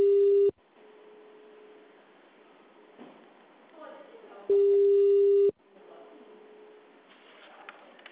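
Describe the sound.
A phone's ringback tone sounds twice: two loud, steady mid-pitched beeps about a second long, four seconds apart, with a call left unanswered. A faint hum and muffled voices fill the gaps.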